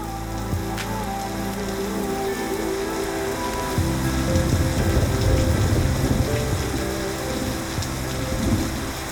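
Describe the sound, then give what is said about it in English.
A waterfall among dry rocks in the desert rushes steadily, a dense continuous hiss of falling water with a deeper churning rumble that swells slightly partway through. No voices, just the constant roar. “And suddenly, in the middle of the desert and the driest rocks, you find waterfalls.”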